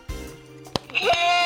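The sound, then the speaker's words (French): A custom quiz buzzer being tested into the microphone goes off once with a loud, wavering bleat-like tone that swells and holds to the end, preceded by a couple of soft knocks. “Tiens, tu peux tester ton buzzer dans le micro.”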